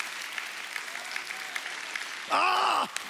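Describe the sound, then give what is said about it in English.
A crowd claps steadily in a dense, even patter for about three seconds, then a single loud, drawn-out voiced cry rises over the clapping near the end before it continues. “Oh, that clapping hurts.”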